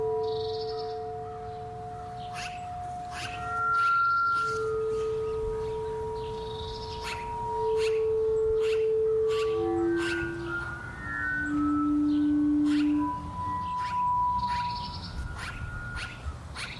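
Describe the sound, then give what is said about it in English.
Magpies carol in a run of fluting, sustained whistled notes that rise and fall, punctuated by sharp clicks, moderately loud with no one talking. “Maybe hearing the magpies again is what got me thinking about birds in the first place.”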